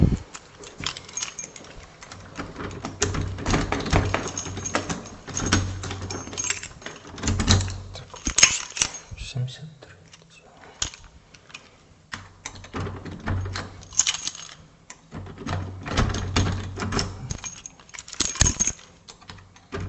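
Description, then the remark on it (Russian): Keys jangle and clink repeatedly as someone fumbles a key, apparently the wrong one, against the lock of apartment 74, metallic rattles coming in uneven bursts, with no talking. “Так, а тут у нас она чуть левее, она 70, а, подожди, 74, мне кажется, ключ не тот дали, 73.”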